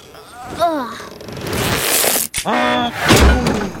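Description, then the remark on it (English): Straining, wavering vocal sounds over a rough noisy rumble as a group pushes Trash Truck are cut by a single sharp snap of the rope breaking, followed by more voices and a dull thump. “Oh, the rope broke.”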